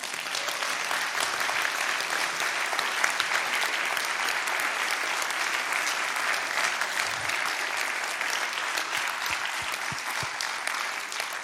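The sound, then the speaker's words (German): Sustained applause from an audience for the sound engineer at the mixing desk, a dense, steady wash of many hands clapping at an even loudness for about eleven seconds, with no voices standing out. “Und dann am Mischpult, den müsst ihr einfach wirklich einen Applaus geben.”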